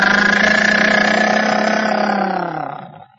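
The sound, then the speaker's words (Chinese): A car engine hums steadily, then winds down as the car stops outside the Tiger Hall, its pitch sinking as it cuts out and falls silent within a few seconds. “汽车一停，杨雨婷、常银怀一前一后是走进老虎厅。”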